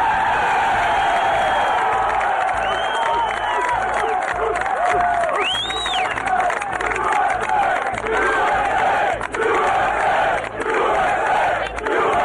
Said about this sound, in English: I hope that chant of USA that resonated throughout the land after the terror attacks 20 years ago is what we feel in our hearts and what we're willing to say now